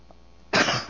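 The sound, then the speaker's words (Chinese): A single loud cough bursts out after a brief quiet moment, harsh and breathy, trailing off slightly at the end with no talking around it. “不好意思，我这有点咳嗽啊。”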